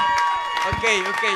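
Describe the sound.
A crowd applauding steadily after a speech, a dense wash of clapping with voices and cheers mixed in, filling the whole short moment.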